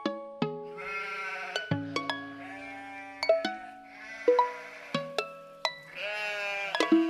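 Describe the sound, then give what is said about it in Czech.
A flock of sheep bleat over one another in a steady, overlapping chorus of wavering, nasal calls, some higher and some deeper, with no one talking. “Grlo ovce je jedna ovca, a grla ovaca su celo stado.”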